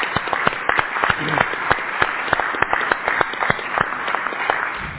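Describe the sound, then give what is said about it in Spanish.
An audience applauds steadily, a dense patter of many hands clapping at once that holds at an even, fairly loud level throughout without any talking. “Gracias, un aplauso para nuestra estructura, sin duda alguna.”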